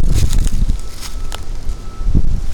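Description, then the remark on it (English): Wind gusting through a valley, a steady low rumble with rushing, rustling bursts that swell and ease over a few seconds, fairly loud and with no one speaking. “We've got wind down in the valley.”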